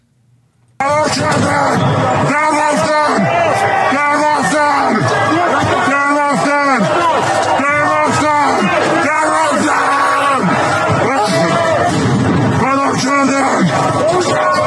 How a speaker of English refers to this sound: Back to Iran, and in the streets are yelling and shouting and protesting.